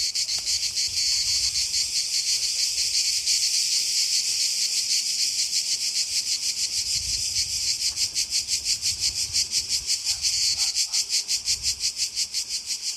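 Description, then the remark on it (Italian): Loud, dense chirring of cicadas at midday on a hot summer day on the island of Ithaca fills the air continuously, a shrill buzzing drone that pulses rapidly in the second half, with no voices present. “Fa caldo e il rumore delle cicale è assordante nel mezzogiorno.”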